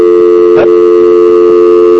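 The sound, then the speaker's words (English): Steady electronic telephone keypad tones hum continuously over a LoopUp conference call line as its mute function is used by pressing pound pound one, with a short click near the start and no talking. “when we use their mute function, which means when you do pound pound one”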